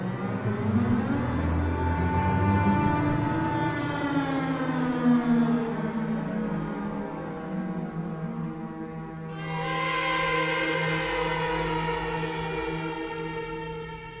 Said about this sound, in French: Une trentaine de glissandi vers l'aigu et vers le grave, joués de plus en plus fort